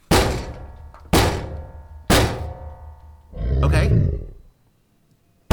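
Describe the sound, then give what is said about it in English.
A bipedal creature bangs on a door three times, about a second apart, each heavy, booming bang ringing briefly. A loud, rough rumbling growl follows, swelling and then cutting off. “Okay. The door's holding.”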